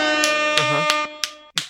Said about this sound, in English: Where's that applause button?